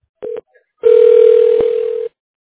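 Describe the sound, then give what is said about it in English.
A telephone call to CLA ringing through to reception: a short electronic tone, a brief pause, then a longer steady, mid-pitched buzzing tone, fairly loud and with no voices. “We're ringing you through to reception.”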